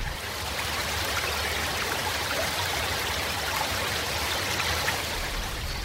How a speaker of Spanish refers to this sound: Ambiente. Esta se llama agua.